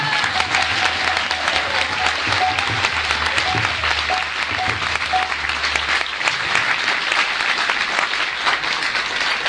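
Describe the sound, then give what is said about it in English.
A crowd applauds steadily for the full stretch, dense clapping that stays loud throughout, with a low hum underneath for the first part and a few faint cheers mixed in. “I think it deserves more applause than that.”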